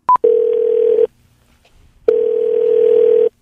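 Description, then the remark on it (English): An outgoing phone call to a car dealership: a quick high beep, then two long, steady buzzing ring tones separated by a second of silence, loud and clear with no voices. “a car dealership and we kept calling them back over and over again.”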